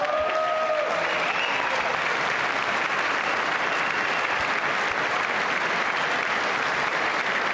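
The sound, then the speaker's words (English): Sustained applause from members of Congress after a call to pass the Stop Insider Trading Act, a dense, steady wash of clapping from a large crowd that holds at an even level from start to finish, with a brief tonal sound at the very beginning. “I wasn't sure if anybody even on this side was going to applaud for that.”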